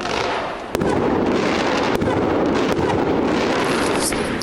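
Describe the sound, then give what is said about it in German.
Fireworks set off outside by Aue fans to support their team crack and bang in a handful of sharp, irregular bursts over a dense, steady roar of crowd noise, each pop loud and abrupt against the continuous hiss. “So, die Fans von Aue haben ein kleines Feuerwerk draußen aufgebaut, um ihre Mannschaft zu unterstützen.”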